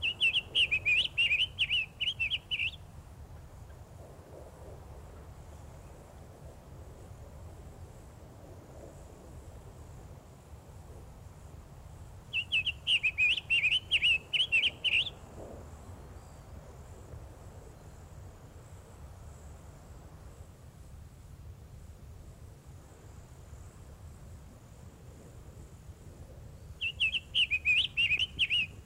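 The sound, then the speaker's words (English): Summer tanager song in three separate bursts of quick, high, warbled notes spaced about twelve seconds apart, clear, over a steady insect hum and low outdoor rumble. “Florida's only native tanager is the summer tanager, the adult male of which is wholly red.”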